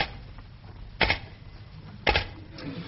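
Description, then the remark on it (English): Two sharp, loud mechanical clacks about a second apart over a low background rumble, slow, deliberate strokes as someone types on a typewriter. No one speaks. “I really must do a bit of typing.”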